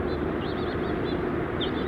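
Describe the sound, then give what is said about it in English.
House finches give a series of short, high, warbling chirps in loose clusters, fairly soft against a steady rushing background noise. “Bunch of house finches.”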